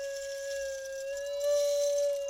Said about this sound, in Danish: Der svarer med nogle lidt blidere toner på blokfløjten.